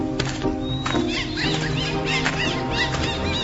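A large troop of wild monkeys, heard by hunters just ahead, calls continuously, with many overlapping high, squealing cries and chatters layered over one another at a steady, moderately loud level, and no one talking.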